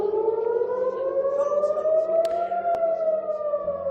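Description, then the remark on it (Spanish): A rocket warning air-raid siren in Haifa, sounding because of approaching rockets, wails continuously, a loud, sustained tone that slowly climbs in pitch with no break, with no voices over it. “Las alarmas por la proximidad de los cohetes han sonado con cierta frecuencia y la vida allí se hace cada vez más complicada.”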